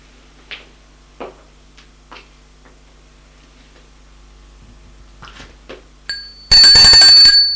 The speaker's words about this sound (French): On sonne à la porte, pas à l'interphone, mais à la porte. Il se dit que ça doit être une personne de l'immeuble.